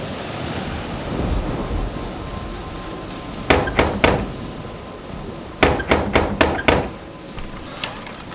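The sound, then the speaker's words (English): Knocking on a door: three sharp raps, a pause, then a quicker burst of five, with one faint knock at the end, all over a low, steady rumbling background and no voices. “You come knock on that door.”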